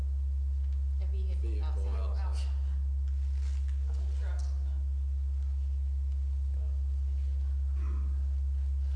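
A steady, loud low hum drones throughout, made by people outside, with muffled voices and wavering tones drifting in from outside, plus a few faint thumping beats.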